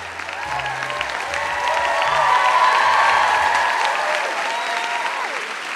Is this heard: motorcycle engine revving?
no